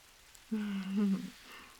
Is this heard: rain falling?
yes